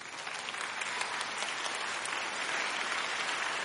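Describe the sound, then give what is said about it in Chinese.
Steady audience applause, a dense wash of many hands clapping at an even, moderate loudness throughout, with no voices on top. “不应该只有那一点点掌声。”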